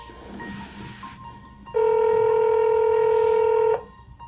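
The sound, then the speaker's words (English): A phone line rings after a quieter, noisy lead-in: one loud, steady electronic ring tone lasting about two seconds, clear, with no voices, as a call is placed to a woman in New Jersey. “And we want to try to be as careful as we can with Cleo's mom, and so we thought that maybe a phone call first would be the best way to reach out to her.”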